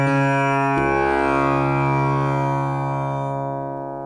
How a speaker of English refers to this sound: So this is a tambura, and here's what it sounds like. And it's, you know, it's long strings that vibrate, and the magic of the instrument, the buzzing thing, is the bridge.